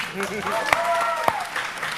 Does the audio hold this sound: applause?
yes